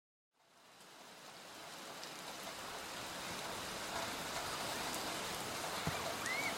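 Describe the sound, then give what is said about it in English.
Steady rain falls with a dense, even hiss that swells in after a brief silence and holds constant, with a few sharper drips and patters standing out near the end. “Oh no, it's raining again.”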